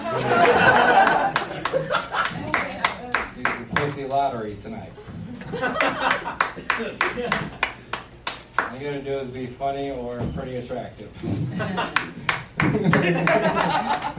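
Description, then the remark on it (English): A steady run of sharp, rapid claps from a single woman in the audience at an open mic continues throughout, with a man talking over them and occasional chuckles from a small crowd. “She's clapping because she has a pussy to give away.”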